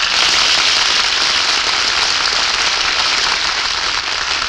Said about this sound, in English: Hear that applause? Oh, they loved you, Jane.